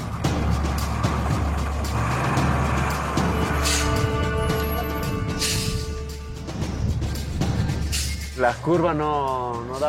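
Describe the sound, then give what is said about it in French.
A heavy truck engine rumbles steadily as the truck maneuvers slowly in reverse on a narrow road, lacking space to turn and needing several attempts to pass, with a sustained droning tone mid-way and voices briefly audible near the end. “Le camion n'a pas assez d'espace pour tourner. On est obligé de s'y reprendre à plusieurs fois pour passer.”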